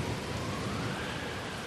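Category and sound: nature, heavy rain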